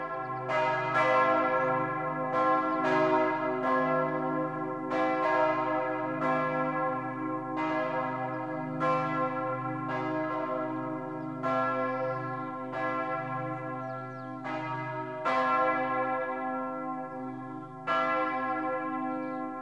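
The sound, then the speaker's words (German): Church bells ring in Christmas continuously, several bells overlapping in a full peal with repeated strikes every second or two and long resonant tails, loud with no voices. “Was einst der Engel den Hirten verkündete, das singen heute die Glocken der ganzen Welt.”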